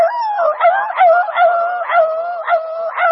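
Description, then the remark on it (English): A voice mimics the frantic yelping squall of a dog running past with its tail between its legs, a continuous wailing cry broken by sharp upward yelps about every half second, loud, with no other sound around it. “And I looked and here come a dog, honestly, that was pert near between my knees and my belt. Coming down through there with his tail between his legs, just a squall.”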